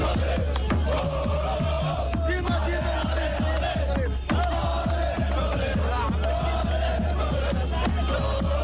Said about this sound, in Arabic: صراخ وغناء وأهازيج لفرحة ولادة جديدة، ولادة مجد كروي مغربي صنعه أشبال الأطلس في الشيلي. في كل أزقة وشوارع المملكة عمت فرحة عارمة بعد تحقيق المنتخب المغربي لأقل من 20 سنة لقب كأس العالم للفئة إثر تغلبه على نظيره الأرجنتيني بهدفين نظيفين